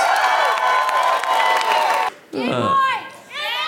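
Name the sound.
audience applause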